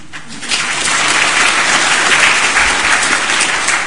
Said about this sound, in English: you may applaud at any point.